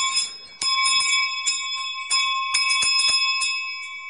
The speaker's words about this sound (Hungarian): Ott fekszik a mezőn, mögötte a juhokkal. Ezek a csengők ott szóltak azon.